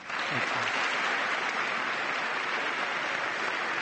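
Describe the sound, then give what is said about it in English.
Sustained audience applause lasting about two minutes after a speech honoring Ryan, a dense steady roar of many hands clapping at a constant loud level throughout, with no pauses or voices standing out. “Yeah, the applause went on for about 2 minutes.”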